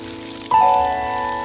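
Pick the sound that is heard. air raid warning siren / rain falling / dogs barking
rain falling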